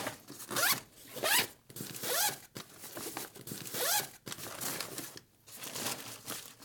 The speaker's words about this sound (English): All right, so what we've got here, we've got three different compartments and each is divided in the middle, got a zipper top bottom, so it gives you six little compartments. So we're gonna go ahead and open them all up now.